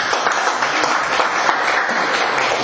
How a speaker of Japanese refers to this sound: 頑張っていきましょうということで拍手いただいております。